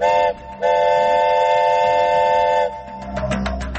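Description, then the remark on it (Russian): The Kyiv–Lysychansk train in Ukraine, on the day it begins running, sounds its horn loudly, a short blast followed by a long sustained one, then low rumbling and clattering as it moves along the rails. “Поезд «Киев-Лисичанск» начинает курсировать сегодня.”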